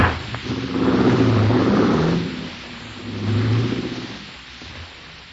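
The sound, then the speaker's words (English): A police car engine revs up twice in two rising swells, then fades as the car pulls away, a steady mid-pitched rumble with no voices. “I saw you leaving the police car a while ago.”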